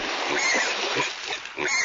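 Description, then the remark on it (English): A pig oinks and snorts in a rapid, continuous string of rough grunts lasting a couple of seconds, fairly loud, with no voices. “Can the pig get in?”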